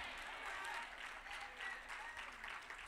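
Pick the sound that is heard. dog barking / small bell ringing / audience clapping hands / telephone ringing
audience clapping hands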